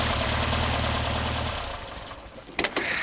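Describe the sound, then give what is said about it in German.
A yellow Volkswagen Beetle's engine hums low and steady with a rhythmic, chugging texture as the car returns and rocks heavily onto a beach, then softens and dies away, ending with a few sharp clunks. “Als er das Wasser einige Minuten später aufgoss, vernahm er ein leises Brummen. Bob kam zurück. Kurz darauf schaukelte der gelbe Käfer schwerfällig auf den Strand.”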